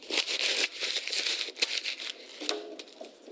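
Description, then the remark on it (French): Paper is crumpled for a few seconds: a dense, continuous crackle of dry crinkling with sharper snaps scattered through, easing off slightly toward the end. No voices. “Papier ! Mais non ! Comment tu vas nous lire ton papier ?”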